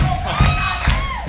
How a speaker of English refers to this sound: you want to join in and clap along. Here we go. Ready? Come on, let me hear you. Oh, come on. Your clap's going to be on the radio.